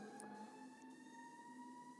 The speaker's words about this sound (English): hold on, there's a ambulance. I'm not sure if you'll be able to hear that or not.